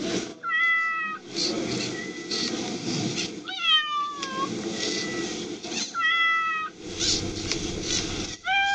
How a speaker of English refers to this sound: So, you know, all in all, it meows.